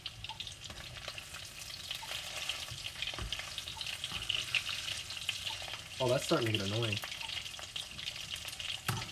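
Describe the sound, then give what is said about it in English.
Greasy food sizzles and crackles steadily in a pan, a constant hiss with sharp pops, while a voice speaks briefly near the end. “I splashed it again, so now there's more grease on it.”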